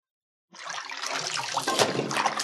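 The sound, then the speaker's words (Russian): Sea water suddenly bursts into sloshing, splashing after a short silence as a golden fish emerges from the sea, continuing steadily and fairly loud, with a brief stronger splash midway. “Выглянула из моря золотая рыбка.”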